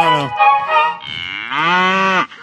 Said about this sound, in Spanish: La vaca muge.